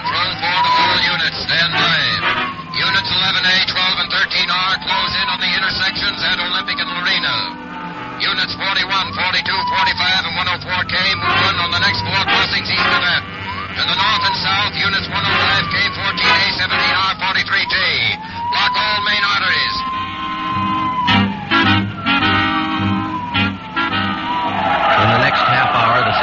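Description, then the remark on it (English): A car races at high speed in a chase, headed east on Olympic crossing Soto Street, its engine roaring steadily while tires squeal again and again in rising and falling shrieks, loud throughout. “We're traveling at a high rate of speed, headed east on Olympic, crossing Soto Street.”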